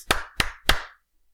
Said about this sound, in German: Gut, dann klatschen wir mal.